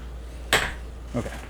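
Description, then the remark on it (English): A sharp metallic clack rings out, followed a moment later by two softer knocks, as an unruly clam that won't come out of the pot clatters against the side of a metal pot, with a low steady hum underneath. “I've got an unruly clam here that doesn't want to get out of the pot.”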